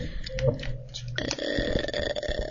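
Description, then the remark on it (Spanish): A long, loud, rumbling burp that swells up partway through and drags on with a croaky, guttural tone, with no one talking over it. “Parece un eructo.”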